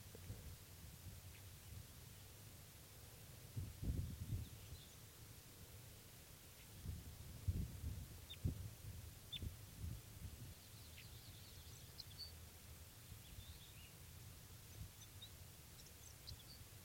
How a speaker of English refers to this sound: Recording him underneath that wild bird now, and he's just getting some soft song here.